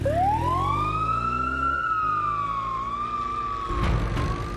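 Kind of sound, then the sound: vehicle, ambulance sirens wailing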